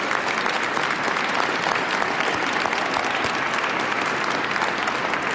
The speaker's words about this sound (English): Let's give another round of applause to the Tremper High School Wind Ensemble. Thank you very much.